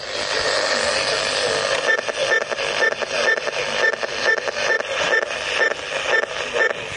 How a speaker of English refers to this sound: every time we press a button on the remote control, it makes this awful noise on the radio